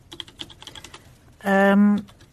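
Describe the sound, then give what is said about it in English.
Quick clicking of fingers typing on a faulty laptop keyboard, followed by a loud, steady buzzing tone for about half a second before the tapping resumes faintly. “This keyboard doesn't work at all.”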